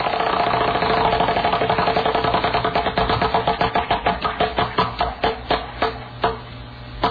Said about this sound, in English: Remember we were going to do that the Rick Emerson Wheel of Topics at one point, and we actually got the prize wheel sound? Wait, hold on. I'm going to spin the Wheel of Topics right now, except I know where it's going to land.